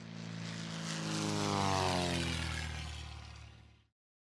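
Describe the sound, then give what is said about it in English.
A propeller airplane flying to Hollywood drones past, its engine hum swelling louder toward the middle and then fading away before cutting off abruptly, with no voices. “Without saying goodbye to anyone, Alice paddled down the river and took the first plane to Hollywood.”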